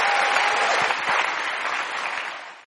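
A crowd applauds with steady, dense hand clapping that holds at a fairly loud level for a few seconds, then cuts off abruptly.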